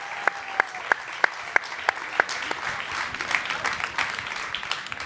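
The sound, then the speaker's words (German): An audience applauds for Vanessa Bernauer, opening with a few sharp, evenly spaced claps that quickly blend into a steady wash of clapping from a crowd, moderately loud and continuing throughout. “Und ja, ich würde sagen, einen ganz herzlichen Applaus für Vanessa Bernauer.”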